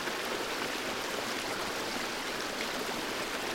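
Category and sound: nature, flowing water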